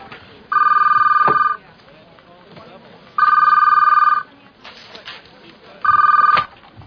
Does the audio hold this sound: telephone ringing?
yes